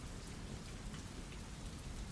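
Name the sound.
rain falling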